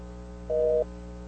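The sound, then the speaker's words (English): A single short burst of a telephone busy signal, heard when calling a radio show's phone line, a steady dual-pitched electronic tone lasting about a third of a second over a low background hum. “Ah, it's busy.”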